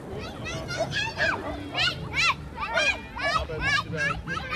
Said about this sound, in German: Kinder rennen kreuz und quer durch die Gegend.